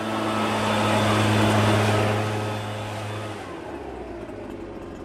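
leaf blower running

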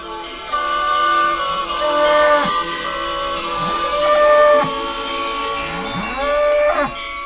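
cattle lowing

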